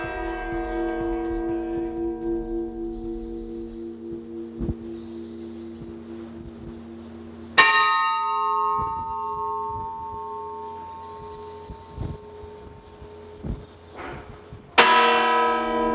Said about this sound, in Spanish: abrimos Realidad Documentada hoy con sonido de campanas